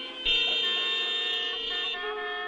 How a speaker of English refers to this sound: One of the most famous scenes of his career is a 7-minute-long traffic jam in the movie Weekend, where, in one shot, we see all representatives of modern Western life stalled out on the side of the road, honking their horns incessantly.